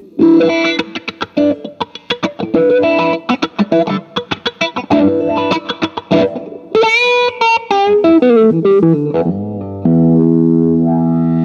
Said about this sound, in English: This is a Vox Crybaby wah-wah pedal.